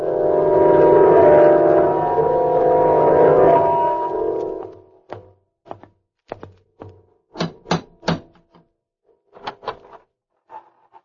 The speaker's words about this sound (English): The door's open all by itself. There's no one there.